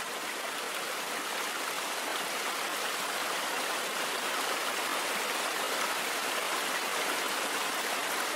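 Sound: flowing river water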